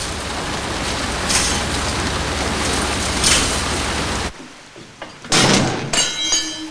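Steady rain-like hiss fills the first few seconds, then cuts away to quiet before a high warehouse door scrapes and creaks as it swings open with a grinding, metallic groan.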